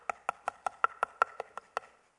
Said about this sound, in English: It's banging on the door.